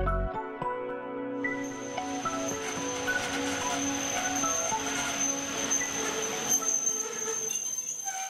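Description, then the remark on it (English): A train rolls slowly into the last station stop inside Hungary, a couple of kilometers short of the Austrian border, its wheels squealing in a high, sustained metallic whine over the low rumble of the carriages, steady throughout. “Train pulling into the last stop inside Hungary, a couple of kilometers short of the Austrian border.”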